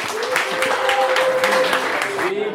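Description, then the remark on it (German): An audience breaks into dense, steady applause thanking a brewer for her beer, many hands clapping at once in a continuous crackling wash, with a faint tonal hum running underneath and some murmured voices mixed in. “vielen, vielen Dank, großen Applaus, super leckeres Bier, lasst euch schmecken.”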